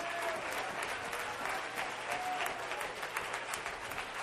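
A church audience claps steadily together in praise of God, a dense, continuous wash of many hands, with faint crowd murmur underneath and no clear speech.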